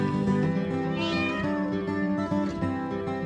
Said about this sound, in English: Kitty. Kitty. Can you say kitty?